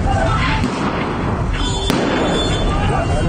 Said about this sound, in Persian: یک شنبه 24 در اغلب شهرهای کردنشین کشور هم اعتراضات بی وقفه ادامه دارد. اینجا در کرمانشاه صدای تیراندازی شنیده می شود.